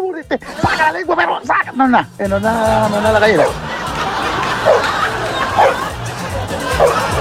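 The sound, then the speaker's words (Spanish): A dog barks in a few short bursts at the start, then a lively crowd takes over with overlapping chatter and snickering laughter that continues to the end. “Oye, que son pesados con el pobre perrito.”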